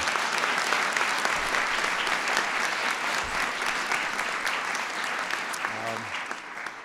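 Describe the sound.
A crowd applauds steadily, a dense wash of many hands clapping at an even level for several seconds and thinning slightly toward the end, where a brief voice surfaces.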